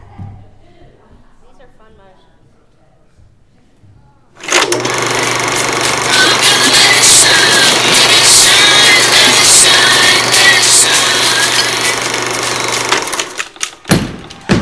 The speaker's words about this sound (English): You guys stomp your feet like that?